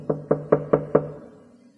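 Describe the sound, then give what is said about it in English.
A man knocks quietly on a wooden door off a corridor: five quick, evenly spaced, fairly soft knocks, with a short resonant decay after the last one and no voices. “At Stella Vixen's door, he stopped and knocked quietly.”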